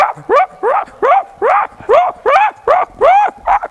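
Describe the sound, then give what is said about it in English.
A dog in a normally quiet neighborhood barks repeatedly in a steady, rapid rhythm, about ten loud barks in a row with short gaps between them and no other sounds. “The dog just went incessantly for a half hour.”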